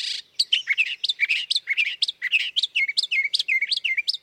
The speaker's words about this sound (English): But they're not the only mimic birds in town. Brown thrashers also learn songs from nearby birds and add them to their repertoire. The species has been documented singing over 1,100 different songs, a mix of imitations and invented little melodies.